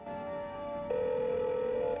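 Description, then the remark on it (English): Telephone line tones as a man redials from a public phone booth at sunset: a steady electronic tone holds, then abruptly shifts to a slightly lower, louder tone that continues to the end. Clear, no voices. “He redials, his mouth tightening as he waits for a response.”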